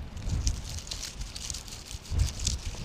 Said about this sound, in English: And these plants are growing here on these bare shales, and that's where they like to grow. They're members of a family known as the stickleaf family. If you run your hands through the foliage, you can hear this sound.